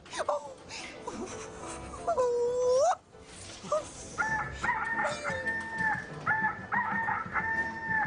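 rooster crowing

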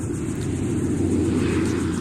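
airplane flying overhead

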